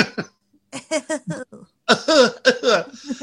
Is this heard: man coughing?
yes